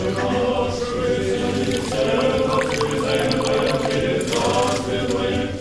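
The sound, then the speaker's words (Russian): After a prayer service to St. Seraphim of Sarov, Bishop Joseph pours water again and again onto a stone sanctified by the elder's prayer. The water splashes in repeated gushes onto the hard surface, fairly loud, over a steady bed of murmuring voices throughout. “Следуя этой старой традиции, владыка Иосиф совершил молебен преподобному Серафиму и затем многократно облил водой освященный молитвенным подвигом старца камень.”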